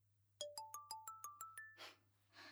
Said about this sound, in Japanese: あ、すいません。なんかスマホ鳴っちゃってるんで、電話出ていいですか？